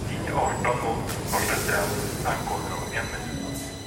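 Steady rumble and rattle of a moving subway train, with a continuous low roar, faint hiss and occasional squeaks and clatter, close and fairly loud throughout.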